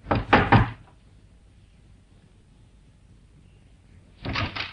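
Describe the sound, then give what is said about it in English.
Three quick, firm, loud knocks on the door of a small flat in a good residential district, followed by a pause of near silence before another brief burst of door noise at the end. “But instead, he knocked.”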